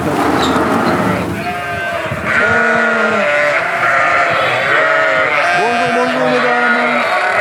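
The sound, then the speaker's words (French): A flock of sheep bleats repeatedly in an old-style sheepfold where hay is given by wheelbarrow, overlapping wavering calls from several animals, over a steady background murmur, with people talking faintly between the cries. “Donc une bergerie un peu à l'ancienne, tu vois, on donne à la brouette, on n'a pas de tapis.”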